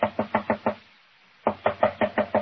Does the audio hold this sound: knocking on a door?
yes